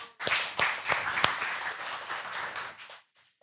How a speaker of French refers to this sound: Merci, on peut les applaudir.